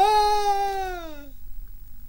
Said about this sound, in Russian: Слышен собачий визг. Очумелов глядит в сторону и видит из дровяного склада купца Пичугина, прыгая на трех ногах и оглядываясь, бежит собака.